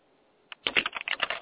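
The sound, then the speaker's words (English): Fast, loud typing on a computer keyboard next to a microphone: a single key click, a brief pause, then a rapid burst of clattering keystrokes, with no voices. “You are typing fast.”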